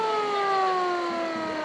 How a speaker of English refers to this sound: That's the siren on a fire truck that was actually at the 1915 PPIE. We have made it as close as we can get to the original fire truck, and it's a drivable, operable fire truck.